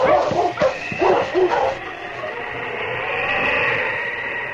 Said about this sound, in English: Lose the scent, boy. The big husky slowly circled, searching for the scent. Then, where a branch trail, now hidden by the snow, turned to the left, the big dog stopped and barked. Good dog. Found the scent again.